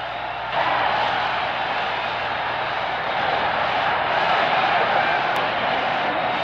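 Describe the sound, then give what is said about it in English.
A baseball stadium crowd roars after Ken Boyer's grand slam home run for the Cardinals against New York in the top of the sixth inning of the 1964 World Series, a dense, steady wall of cheering that swells sharply in the first half-second and holds loud and unbroken, with no one speaking over it. “It is a home run. Listen to the crowd.”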